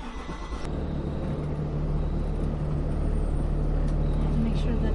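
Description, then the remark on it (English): A bookmobile's engine kicks in after a brief moment and settles into a steady, loud, low rumble with a droning hum as the vehicle drives straight out of its garage at the new, fully remodeled library. “This is the feature of the new, fully remodeled library that we pull in and pull out.”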